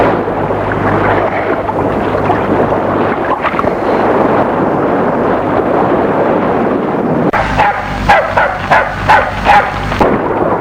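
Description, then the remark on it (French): Strong wind and a rough sea roar steadily at Deauville, then a big black dog barks about half a dozen times in a quick, rhythmic burst near the end. “Elle était accompagnée d'un grand chien noir appelé Billy.”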